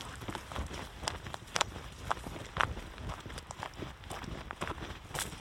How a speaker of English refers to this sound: As you can maybe hear from the crunching underfoot, this is mostly beech trees, as we're walking on all the beech nuts.